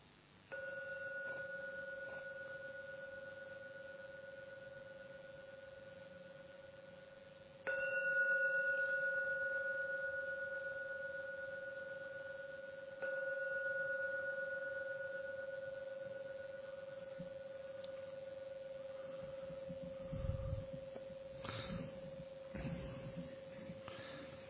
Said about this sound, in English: I'm now going to ring the gong 3 times. So listen to the gong. At the end of the 3rd ringing, open your eyes.